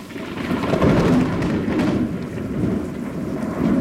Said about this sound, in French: Ça, vous l'avez vécu dans votre cabane, hein, des orages, le tonnerre qui gronde, la pluie qui martèle les feuilles autour de vous. Comment on vit un orage à 6 mètres de haut, perché dans une petite cabane, dans un chêne?